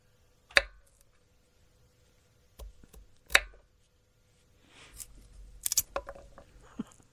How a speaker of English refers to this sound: It sounds like a guy like cutting like nuts or something, like chopping something up. Well, it's close. It's finger cutting. Oh, the fingers. Yeah, I can picture a guy sitting in a sound studio with a bag of baby carrots